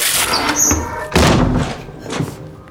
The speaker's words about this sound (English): Don't talk. Just get that door open.